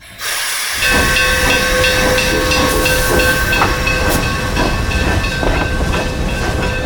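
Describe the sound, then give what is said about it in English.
A steam train pulls away: a loud, continuous hiss of steam with a steady high ringing tone, cut by regular puffing chuffs that keep an even rhythm. No one speaks. “They pulled out right on schedule.”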